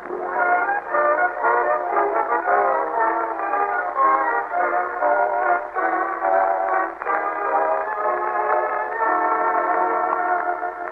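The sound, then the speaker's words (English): A train's horn and whistle blare steadily for the whole stretch, a thick reverberant chord with a rumbling rail bed beneath, at the Summerfield Railroad Station in The Great Gildersleeve, as a train pulls in. “Now let's visit our friend, the Great Gildersleeve, as he and Marjorie and Leroy wait in the Summerfield Railroad Station for the arrival of that well-known authoress, lecturer, and second cousin, Octavia Gildersleeve.”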